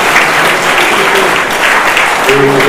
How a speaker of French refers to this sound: Bien, merci Monsieur Vigoureux, et encore applaudissements pour lui.